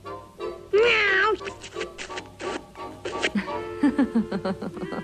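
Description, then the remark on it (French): Kittens meow and growl in a scuffling play-fight, practising biting and scratching, with one loud drawn-out meow early on followed by a rapid string of short yowls and squeaks. “On fait pas de mal en s'entraînant à mordre et à griffer.”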